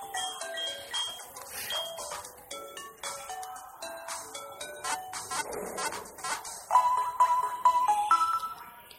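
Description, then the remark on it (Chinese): A telephone beeps in a quick run of bright electronic tones that rise and fall like a ringtone melody, repeating steadily for the whole stretch and growing slightly louder toward the end. “自行车就在那，不是自行车，那个电话就在那滴滴响。”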